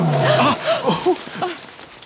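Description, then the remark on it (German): A tiger roars in a series of short, rising and falling snarls, fairly loud, lasting about two seconds with no talking over it. “Rahu, das war doch wieder der Tiger.”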